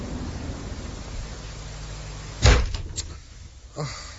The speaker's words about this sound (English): I can see from the way you've just splintered my door, you didn't get Simmons.